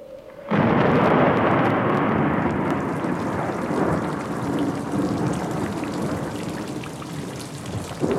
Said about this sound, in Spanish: Se desató la tormenta allá afuera, y a mí no me importó. Ya podía descansar aunque el diluvio cayera.